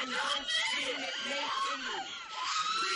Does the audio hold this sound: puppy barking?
no